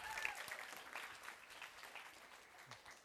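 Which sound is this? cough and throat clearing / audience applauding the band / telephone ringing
audience applauding the band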